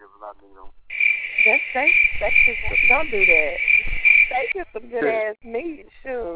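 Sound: cricket chirping sound effect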